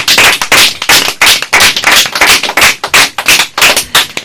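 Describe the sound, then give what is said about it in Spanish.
A group applauds loudly at the COPE radio station, with dense, rapid hand claps forming a steady, crackling roar that lasts several seconds without pause, and no voices over it. “Ala, vamos a darnos otro aplauso porque la COPE es el número uno y vosotros también.”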